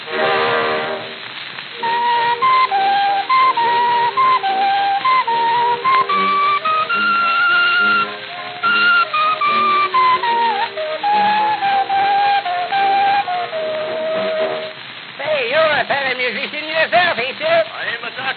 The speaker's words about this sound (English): Say, I've got something here. What do you call that? That carries a sweet potato whistle. You fellas shoot while I blow.